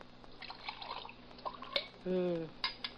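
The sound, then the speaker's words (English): Coffee is poured into a cup: light clinks of crockery and a few drips, then a brief steady pour whose tone shifts as the cup fills, followed by another soft clink. “Want to pour me some coffee?”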